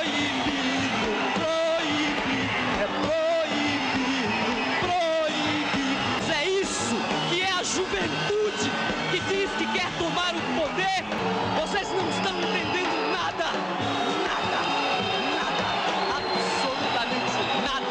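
A large audience at the third Festival Internacional da Canção, held by Globo, boos loudly and continuously at the jury's choice of song: a dense roar of many voices with scattered yells and whoops rising above it, sustained throughout without letting up.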